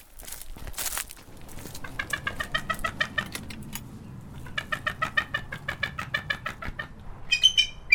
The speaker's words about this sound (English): So there's a bit of commotion here, and I recognize the participants. This is a bald eagle? A bald eagle is correct. Yes, she's a little chatty because, unlike most of the raptors, she is more social. The bald eagles tend to hang out in groups,